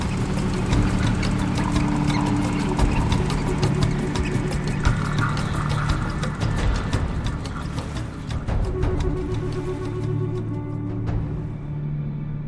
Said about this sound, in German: Die ganze Welt, Tante Maria, ruft Vincente und hat das Boot schon wieder in den Fluss geschoben.